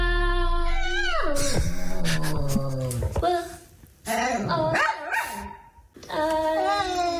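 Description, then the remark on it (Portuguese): A dog howls in long, wavering, pitch-sliding notes, loud, singing along to music with a couple of brief pauses between howls. “Este ouvinte mandou-nos um cão a cantar.”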